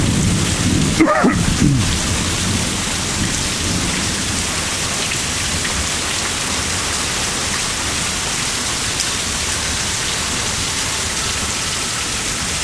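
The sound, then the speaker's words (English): Heavy rain drums steadily and loudly on a carport roof during a storm, with a sharp thunderclap near the start that rumbles briefly before the downpour carries on alone. “Sitting under my carport with the rain and thunder and stuff going on.”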